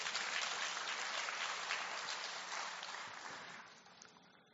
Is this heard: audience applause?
yes